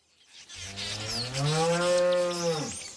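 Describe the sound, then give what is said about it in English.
A single long moo from a free-range Jersey cow on a dairy farm, low and harmonically rich, swelling in loudness and rising slightly in pitch before tapering off, with no one talking. “She doesn't give her Jersey cows any growth stimulants or antibiotics and never sprays her land with pesticides.”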